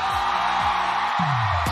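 A person shouts loudly in several short, falling whoops, ending with a longer drawn-out yell, all over a steady roar of crowd noise.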